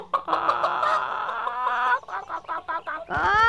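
Several hens cluck and squawk together in a busy, overlapping chorus, with quick repeated calls and a rising, louder squawk near the end.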